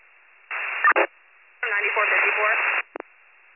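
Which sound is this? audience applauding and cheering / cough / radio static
radio static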